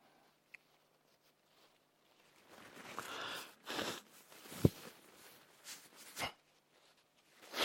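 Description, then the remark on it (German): A preacher pauses a sermon to blow their nose, with several breathy, honking bursts and sniffs over a few seconds after a brief quiet start. No one speaks. “Sorry, ich muss kurz meine Nase putzen.”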